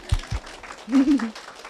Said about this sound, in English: And I have not had, this is a hand clapping moment, but don't wait for it. I have not had a panic attack in 5 years. Now you can clap.